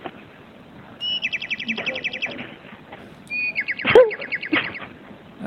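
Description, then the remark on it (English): Two bursts of rapid, high-pitched bird chirping, each a quick repeated trill lasting about a second and a half, with a brief sharp knock between them over a quiet background. “There's birds.”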